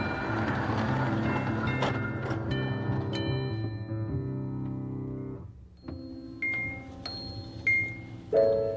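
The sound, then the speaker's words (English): A toy trolley that travels to the Neighborhood of Make-Believe rolls along its track with a steady, low mechanical rumble and humming tones that shift in pitch, punctuated by a few bright, ringing chime-like notes. No one speaks. “Trolley, guess who was here just a second ago?”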